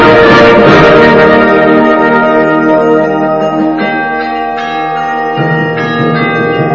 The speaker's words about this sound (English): Kind of cool, huh? That chime part, nice job.